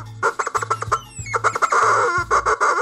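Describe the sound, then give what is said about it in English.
A chicken clucks in quick, busy bursts, fairly loud, with a few rising squawks mixed in and a low rhythmic hum underneath. “I don't know chicken talk, but that sounded like it was way too hot for this show.”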